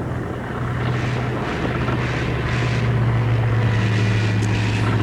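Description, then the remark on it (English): A small propeller plane flying through a storm drones steadily, its low engine hum constant beneath a loud, rushing wash of wind-like noise, continuous, with no voices. “Of course, statistically, when encountering weather aloft, the odds are in your favor in a smaller plane.”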